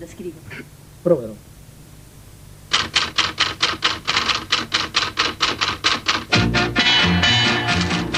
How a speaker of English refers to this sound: Many people probably think I'm capricious, putting sounds like typewriters and tin cans into music. I do it to give an element of actuality. Maestro, may we hear the typewriter?